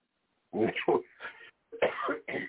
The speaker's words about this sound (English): Please don't cough like that.